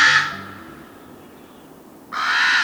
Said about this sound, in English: The common raven is our largest songbird, and it has a voice to match its size.